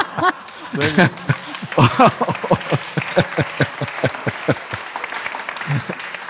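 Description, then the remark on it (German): An audience at an event in Dortmund claps steadily for several seconds, a dense patter of many hands, with a few voices calling out and laughing over the applause at the start. “Ach so, ich hatte gar nicht auf einen Applaus gewartet.”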